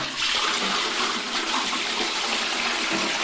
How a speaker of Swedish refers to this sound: De flesta toaletter spolar i tonarten ES-dur.